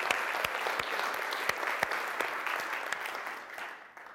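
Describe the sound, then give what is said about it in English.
A crowd claps steadily in a round of applause for Cayuga Dog Rescue, a dense wash of many hands with a few sharp individual claps standing out, fading gradually toward the end. “So I would first say a round of applause for Cayuga Dog Rescue.”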